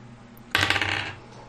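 Dice are rolled for a nature check, rattling and clattering across a table in a short burst of sharp, bright clicks that trail off after about half a second, with a faint low hum underneath and no talking.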